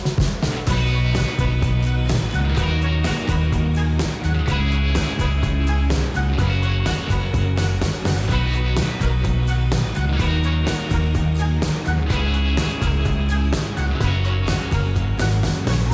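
A loud, full-band instrumental theme tune for the drone section Nivel de vuelo 4 of the aviation show Aerovía plays continuously with a steady beat, punchy bass and bright layered melody, no voices over it.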